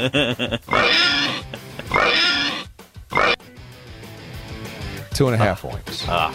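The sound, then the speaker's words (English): A pig oinking sound effect: a pig oinks and squeals in several loud bursts, with brief pauses between the calls and a final squeal near the end. “I gave Elvis 2.5 oinks.”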